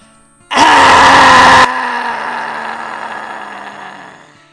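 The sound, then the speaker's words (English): A group of voices lets out one loud, raspy roar imitating a lion, lasting about a second, roaring after a big breath in with mouths open and tongues stuck out, followed by a fading, breathy tail of lower-pitched vocal drones. “As you roar, take a big breath in, open your mouth, stick out your tongue.”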